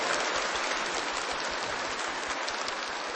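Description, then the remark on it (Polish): Steady audience applause welcoming Bishop Antoni Długosz at a gathering in Mstów, Archdiocese of Częstochowa, fills the whole stretch, a dense crackle of many hands clapping at an even level with no voices over it. “Księże biskupie, witamy serdecznie z uśmiechem na twarzy i oklaskami.”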